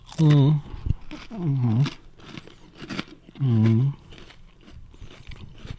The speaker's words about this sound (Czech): Hezky to chroupe. A moc to chutná. Cítím tam tu vanilku. Ten oříšek nádherně, když ho rozkousnete, tak on pustí ty tuky, tu chuť.